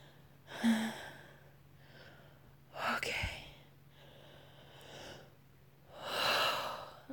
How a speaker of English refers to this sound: Deep breathing.